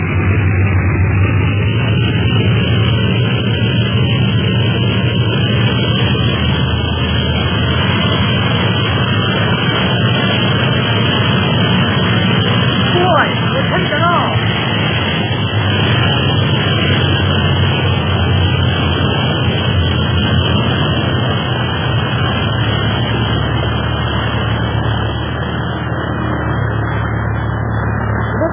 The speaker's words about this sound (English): Clint made a good takeoff. And just in time. Another minute and Clint would have turned that sampan into a junk.